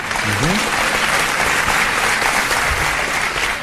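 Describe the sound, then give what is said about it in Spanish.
Dense, steady applause from a live audience fills the whole stretch, a broad wash of many hands clapping at once, with faint voices and a brief rising tone near the start. “¿Escuchó los aplausos del público?”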